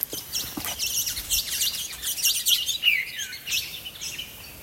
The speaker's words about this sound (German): Das ist eine Wasserstelle mit ganz vielen Eukalyptusbäumen und Farnen und Vogelgezwitscher. Ich habe da mal ein kleines Beispiel mitgebracht.